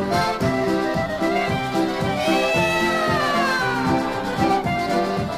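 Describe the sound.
Voices on a polka record sing a string of drawn-out, gliding cat-like meows over a loud, bouncy polka band with a steady oom-pah beat, the imitated meows repeating throughout the lively music.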